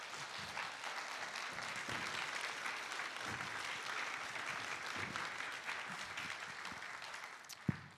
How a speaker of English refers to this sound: Let us give them a round of applause. So what a wonderful singing.